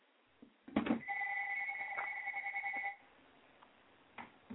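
A telephone rings once as a caller calls again, a steady electronic two-tone trill lasting about two seconds, preceded by a brief click and followed by quiet line hiss. No one speaks.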